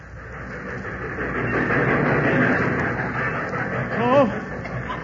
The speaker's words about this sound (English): But I'll never forget that day waiting down at the depot. There was a flock of us there. And as the train pulled in...